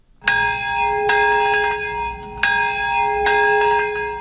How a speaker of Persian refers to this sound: صدای زنگ ها و ناقوس ها همساله این را بیاد می دهند که در یگانه مورد حمله هسته‌ای در ژاپن بیش از 200,000 تن جان دادند.